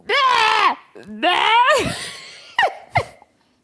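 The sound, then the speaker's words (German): A voice imitates frogs that croak all night, with two long, nasal, wavering bleats, a breathy rasp, then two short clipped croaks. Fairly loud, alone with no other talk. “Bäh, machen die. Die schreien die Frösche.”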